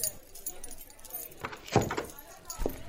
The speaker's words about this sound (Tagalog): Para mabuksan ko na rin ang pinto.